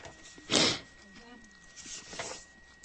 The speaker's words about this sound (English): Sorry for the sniffing. I'm not honking up lines. We have pollen once again in the Atlanta area, North Georgia Mountains. And with all the rain we've had this winter, it's pretty intense. So that's what that's all about.